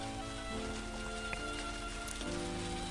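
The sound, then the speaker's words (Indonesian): Steady rain falls continuously, a dense, even hiss of drops on a surface with no pauses, accompanied by a faint low tonal hum running underneath throughout. “Ada juga loh manusia gak suka hujan.”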